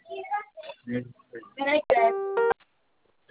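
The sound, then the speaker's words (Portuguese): A voice speaks briefly in Portuguese on an automated phone call, then a single steady telephone keypad tone sounds for about half a second as zero is pressed, followed by silence. “Aperte no zero para saber mais.”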